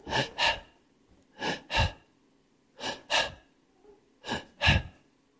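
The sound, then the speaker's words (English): A person imitates a sick child's strained, labored breathing: four paired, gasping inhale-exhale bursts in a slow, regular rhythm, fairly loud, with brief quiet pauses between each pair. “I'm going to give you a little example of Raymond's breathing, just to give you an idea of what we were living with.”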